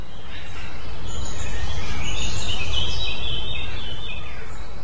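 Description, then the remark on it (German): Lots of birds chirp and sing faintly outdoors, thin high calls scattered over a steady low rumble of ambient background noise, with no one speaking. “Bei uns jetzt hier ist gerade sehr, sehr viel Vogelgesang, Kinder, die man hört.”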